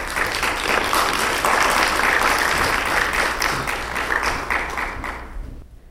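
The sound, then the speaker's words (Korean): An audience at a recovery meeting breaks into sustained applause to welcome a woman about to give her testimony, dense overlapping clapping that holds steady for several seconds before thinning out and fading at the end. No one speaks over it. “우리 박수로 환영해 드립시다.”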